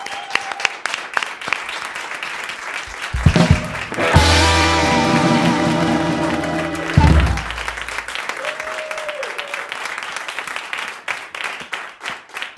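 An audience applauds steadily throughout for performers who have just finished, a dense patter of many hands clapping. Loud music with a low, sustained tonal bed swells over the clapping for a few seconds midway, then the applause continues alone.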